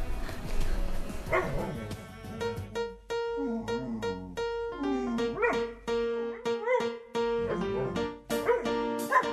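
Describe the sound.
A person imitates a dog, letting out a series of short, loud barks and yips in quick bursts, with steady musical tones sounding underneath.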